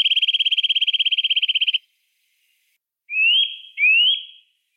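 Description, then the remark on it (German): A songbird with a black stripe through its face delivers a fast, buzzy trill lasting nearly two seconds, then after a short pause another bird answers in the background with two clear rising whistled notes, with no voices present. “Sehr faszinierender Vogel. Und der singt natürlich auch.”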